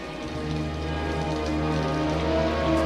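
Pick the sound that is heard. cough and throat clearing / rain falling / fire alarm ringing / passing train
rain falling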